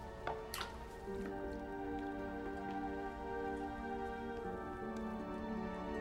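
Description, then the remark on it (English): A ladle dips into a bucket of water with a brief splash, followed by soft drips and trickling as water is poured from the ladle into a cupped hand for a baptism, all over a steady, sustained musical drone. “Now a ladle is dipped in a bucket of water.”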